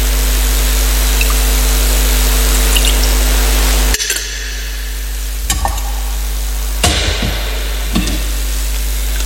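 Water pours in a steady, hissing stream for a few seconds, then stops, followed by a few soft drips and light knocks, with no one speaking.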